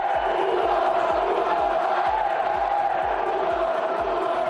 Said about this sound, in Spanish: Gritos de puta Barça, expresados por los seguidores del Español.